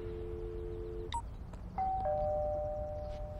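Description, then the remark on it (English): A doorbell chimes in sustained electronic tones: a low steady note, then two higher ringing notes that overlap and hold to the end, over a low rumbling background. “Sophie gets up and answers the door to find David and Troy.”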